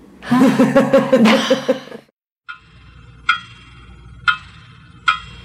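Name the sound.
clock ticking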